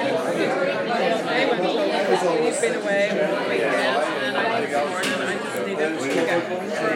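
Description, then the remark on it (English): Dense, steady crowd chatter with many overlapping voices, none clearly understandable, and a few higher children's voices rising out of the murmur now and then. “So there's a big crowd here. There's a couple of children here in the background, as you can hear as well.”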